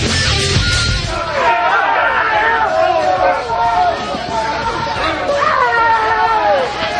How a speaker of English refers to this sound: What is going on? An angry college crowd. They're outraged. Outraged.